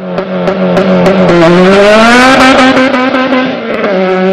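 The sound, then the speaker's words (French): A loud drag-racing car engine roars steadily, its pitch climbing as it revs and accelerates, then holding at a high, throaty whine. No one speaks. “Alors, pour tous ceux qui sont des fans de courses d'accélération”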